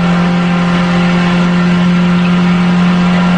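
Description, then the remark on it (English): A voice mimics a truck engine revving, holding a loud, steady, buzzing drone for a few seconds without a break. “I'm coming in my truck.”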